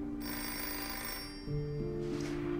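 A telephone bell rings steadily and fairly loudly with no one speaking, its jangling tone continuing unbroken and shifting slightly in pitch partway through.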